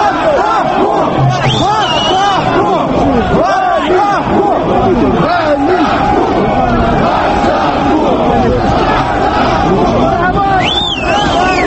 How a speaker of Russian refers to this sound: В отличие от теле- и радиостудии, а также кабинета премьер-министра, где его с радостью выслушивали, рыболовы встретили его дружным свистом и четко выразили свое отношение к деятельности этого чиновника.